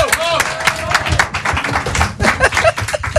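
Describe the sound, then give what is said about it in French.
A crowd applauds with steady, dense clapping that holds at a fairly loud level for a few seconds, with a voice briefly audible underneath near the start. “On peut l'applaudir.”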